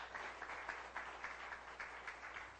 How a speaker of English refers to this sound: Give a hand of applause in his house.